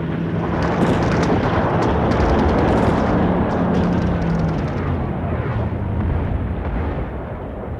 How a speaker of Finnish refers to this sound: Alituinen tykistö tuli ja lentopommitukset pitivät maankuoren jatkuvan tärinän alaisena.